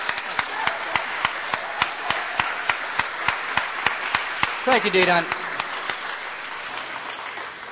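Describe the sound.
A crowd applauds a lawyer for his work with dense, even clapping throughout, while a man briefly speaks over it near the middle before the clapping carries on and gradually thins.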